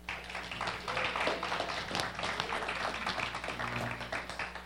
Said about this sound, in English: So like that clapping thing, do it again right now.